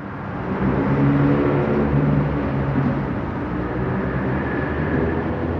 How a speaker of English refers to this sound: As cathedral-like as you can possibly get for being underneath a 8-lane expressway. It's loud, constant. It isn't just something you're seeing. It's something you're feeling because of all the noise.